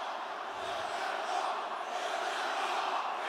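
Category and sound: crowd, crowd chanting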